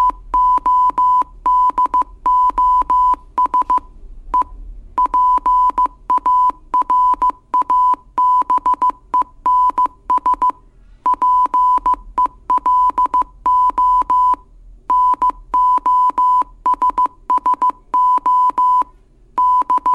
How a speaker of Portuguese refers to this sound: Para finalizar essa matéria, vai uma mensagem para todos os colegas radioamadores telegrafistas em código Morse.